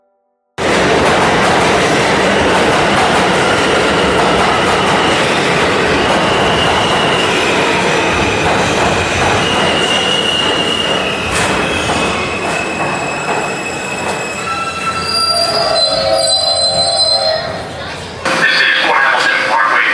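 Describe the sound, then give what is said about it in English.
A G subway train roars along the rails, a loud continuous rumble with shrill, wavering wheel squeals rising above it before the noise changes abruptly near the end. “The G train doesn't go anywhere except to George's place in Queens.”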